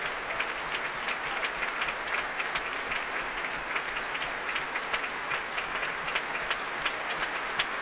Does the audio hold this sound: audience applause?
yes